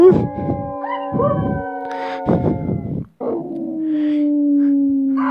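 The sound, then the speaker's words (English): A dog howls in long, drawn-out, mid-pitched wails that sag slightly in pitch, broken early by a few rough yelping bursts, then one steady loud howl held to the end. “Oh, it's a doggy dog world.”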